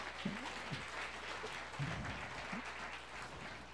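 A crowd applauds with dense, steady clapping that holds an even loudness for a few seconds, a continuous patter of many hands with no voices standing out.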